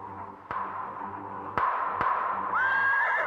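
A horse gives a high, wavering whinny near the end, following three sharp, sudden cracks of high-powered rifle fire over a steady low rumble and hiss, as horses go down on a canyon floor; no one speaks.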